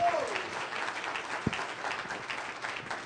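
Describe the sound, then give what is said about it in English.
A church audience applauds steadily in praise of God, many hands clapping in a dense, continuous patter with one sharper thump partway through and no voices standing out. “Come on, let's give God some praise and magnify his name. Clap your hands.”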